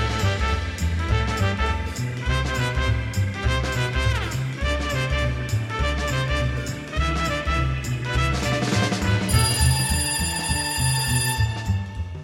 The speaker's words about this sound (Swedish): Ett dygn senare väcktes jag mitt i natten av ett telefonsamtal